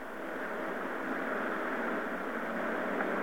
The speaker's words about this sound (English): That sounds like somebody driving. And not driving with golf, but driving a car.